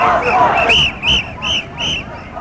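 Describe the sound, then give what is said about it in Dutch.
Busy shopping-street hubbub: a steady murmur of many voices, with a few short, high-pitched tones chirping repeatedly over the crowd noise. “Nou, we lopen nu ineens echt in een winkelstraat.”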